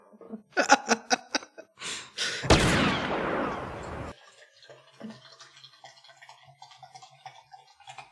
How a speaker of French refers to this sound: Pardon, je me servais à boire.